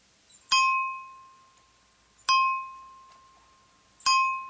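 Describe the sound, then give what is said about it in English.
A bell is struck three times at slow, even intervals on WBAI New York radio, each clear metallic ding ringing out and fading gradually before the next. No voices, just the bell alone at moderate volume. “Ask not for whom the bell tolls. It tolls for Trump. And we're going to troll that bell here on WBAI all we can.”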